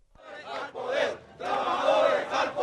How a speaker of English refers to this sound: It's early morning in Caracas, but a big crowd has formed outside the station known by its call letters, RCTV. They carry bullhorns and Venezuelan flags, and they charge that RCTV is out to topple Chavez.